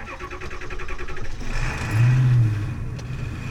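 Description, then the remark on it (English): The engine of an old ambulance truck, repurposed as a mobile veterinary clinic, runs with a rhythmic idle that swells into a heavier, louder rumble as the vehicle pulls away and drives on steadily in Seattle. “The truck is interesting. It's an old medic truck.”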